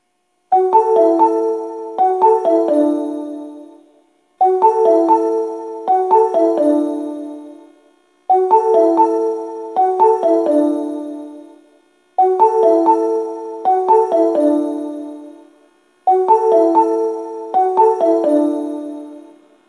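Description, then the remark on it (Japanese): A bright electronic arrival melody on a subway platform, announcing a Dainichi-bound train arriving at platform 2, plays clearly, one short phrase repeated five times with brief pauses between, ringing and tonal with no voices or train noise. “2番線に大日行きが到着します。”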